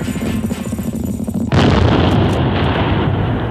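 A rumbling battlefield din gives way at the midpoint to a sudden, heavy burst of cannon fire that roars on loudly and continuously, dense booming thunder filling the rest of the moment.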